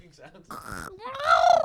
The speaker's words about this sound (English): Wait, can we get more choking sounds?